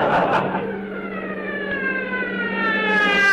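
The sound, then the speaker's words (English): A police siren wails steadily upward, loud, over a low, constant engine drone as a police motorcycle ridden by a uniformed officer approaches and pulls up behind a car. “Don't look now, but there's a man in a uniform riding a motorcycle, and he's following us.”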